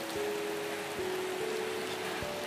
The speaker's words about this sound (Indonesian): kedengaran gak? Iya, suara hujan.